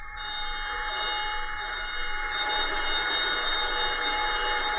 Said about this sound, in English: The signal consists of 7 short and 1 long on the bells and on the whistle. 7 short and a long on the bells and on the whistle. When you hear this signal, all hands will immediately proceed up to their abandoned ship stations.